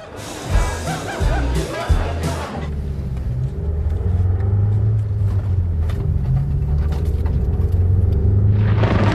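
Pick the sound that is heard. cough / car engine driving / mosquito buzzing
car engine driving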